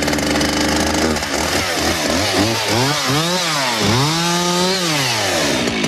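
A chainsaw roars, its engine whining higher and then bogging down as the blade bites into a Christmas fir tree being cut down in the mountains, pitch rising and falling repeatedly through the cut, loud and continuous.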